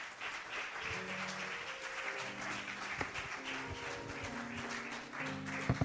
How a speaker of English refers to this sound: Come on, let's give him a hand clap of praise.